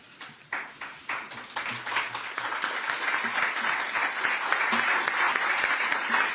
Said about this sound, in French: Alors il a été applaudi, c'était par les journalistes, hein, les confrères qui étaient présents et qui peut-être n'avaient pas vu venir ce moment.